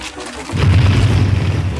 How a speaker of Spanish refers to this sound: En un segundo la gasolina se incendia y las llamas invaden muros y puerta.